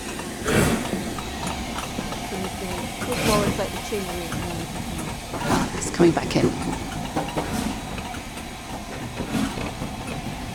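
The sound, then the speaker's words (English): A steam locomotive pulls away from Glenfinnan station with slow, heavy, irregular puffs of steam and a hissing rumble, while a person talks over the chuffing. “Sounds like some huge puffing walrus or something.”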